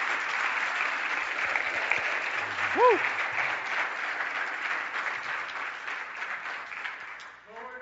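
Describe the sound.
A crowd applauds steadily for several seconds, a dense even clatter of clapping, with a single voice whooping briefly partway through before the clapping tapers at the end.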